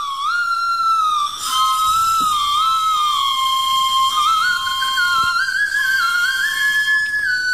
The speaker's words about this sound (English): Whistle pops. What an abomination. That's like buying your kid a recorder. Yeah. You should know better. It's a lollipop that has a whistle as part of it, but if you eat the lollipop, you don't have the whistly part.